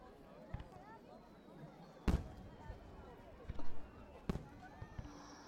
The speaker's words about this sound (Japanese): 綺麗だ。これは一体何なのだ？花火というやつか。急に大きな音が聞こえたものだから、